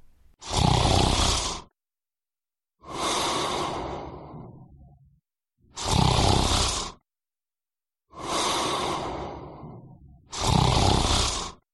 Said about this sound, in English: Yes, he's snoring.